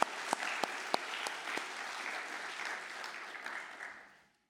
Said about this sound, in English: Folks, could we give these men a round of applause? Thank you, fathers.